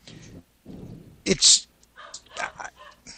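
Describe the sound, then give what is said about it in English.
A dog lets out a sharp, loud bark partway through, with muffled voices talking quietly before and after it. “My dog's barking, and I lost my train of thought.”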